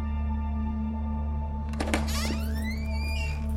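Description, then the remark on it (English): A door down the hall swings open: a dull latch thunk followed by a long, rising hinge creak, heard over a steady low electrical hum. “Johnson hears a door swing open down the hall.”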